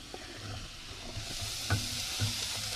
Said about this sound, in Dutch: Er gaat nou de appel in de pan.